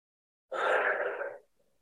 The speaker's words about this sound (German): Gehen dann nochmal wieder runter, atmen richtig laut aus. Und noch einmal wieder hoch.